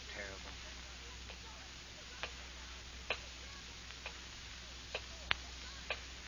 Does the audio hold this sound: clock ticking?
yes